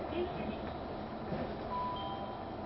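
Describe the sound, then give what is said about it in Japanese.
A train rolls into Kurosaki station, heard from inside: a steady rumble of wheels and carriage noise with a thin brake-like whine rising near the end and a faint muffled voice underneath, announcing arrival at Kurosaki with Kokura as the next stop. “まもなく黒崎に着きます。黒崎を出ますと次は小倉に停まります。”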